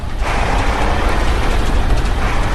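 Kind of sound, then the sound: vehicle, truck driving off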